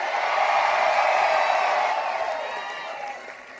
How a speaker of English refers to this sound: Let's cheer so they can hear us in New Jersey. Let's cheer so they can hear us in Virginia.